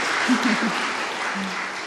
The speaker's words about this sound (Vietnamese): Cho anh tràng pháo tay, giỏi quá.